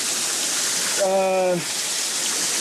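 heavy downpour of rain

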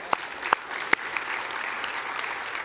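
audience clapping in church

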